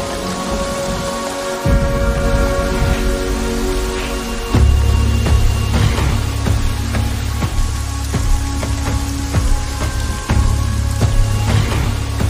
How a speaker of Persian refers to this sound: و بالاخره بارون بارید.